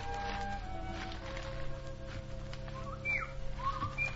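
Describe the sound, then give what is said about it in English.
A few short, high whistling bird calls chirp out over a steady, rustling outdoor background, with a pair of quick notes near the end, moderately faint. “There's that bird again.”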